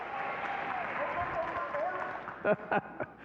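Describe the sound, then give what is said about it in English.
An audience applauds in a dense, steady wash of clapping mixed with shouting and cheering voices, ending with a few louder, separate claps near the end. “Everybody, just for fun, just give the biggest round of applause to Joe”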